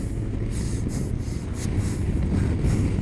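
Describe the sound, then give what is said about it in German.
A motorcycle carrying a passenger behind its rider rumbles while accelerating over its first meters, its deep, steady engine roar mixed with rushing wind and faint rising whooshes, growing slightly louder toward the end. No one speaks. “Die ersten Meter vom Motorrad.”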